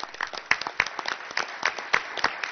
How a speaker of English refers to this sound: So once again, we look forward to continuing to do good work by supporting the wonderful teachers we have, and I'd like to give them all a round of applause again.